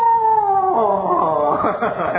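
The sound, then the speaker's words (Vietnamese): A person imitates a dog howling with one long, wavering wail. It holds steady at first, then rises and warbles unevenly. Loud and continuous for about two seconds, with no other sounds. “Thế thì chó nó kêu sao Phật tử?”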